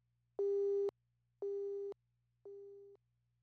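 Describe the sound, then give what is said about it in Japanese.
A telephone busy tone after a call drops: three steady, evenly spaced beeps, each about half a second long, over a faint low hum, with the last beep slightly quieter. “会話が噛み合わないまま電話は切れてしまった。”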